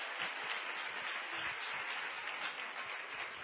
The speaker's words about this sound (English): I love you. Love you. Let's give one another a hand clap.